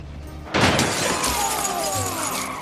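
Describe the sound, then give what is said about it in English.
A single sharp, loud gunshot from a replica gun, fired to test whether it works, goes off inside a car, followed by a couple of seconds of crackling, shattering debris and a high ringing that slowly fades. No voices are heard. “Well, you wanted to know whether or not they work. I didn't mean to try it in the car”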